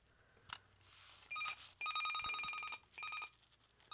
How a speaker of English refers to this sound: Oh, there's the phone. Hang on.